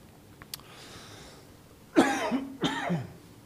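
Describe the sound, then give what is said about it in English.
Two quick, harsh coughs from a tickle in the throat, in close succession and loud, with a short pause between them. No one speaks, and it is otherwise quiet apart from a faint click beforehand. “Excuse me, I got this tickle.”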